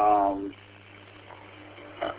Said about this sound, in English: Sorry, my dogs are having a fit, and I don't know why.